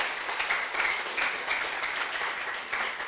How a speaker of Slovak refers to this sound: Radostný potlesk, že tomu tak je a že my chceme, aby tomu tak bolo.